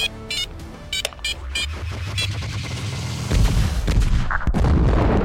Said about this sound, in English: The blast struck a wall dangerously close to the atmospheric regulator.